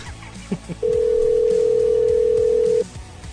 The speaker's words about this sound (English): Great, now somebody else is calling me. Because I took that one call, people think this is a call-in show now.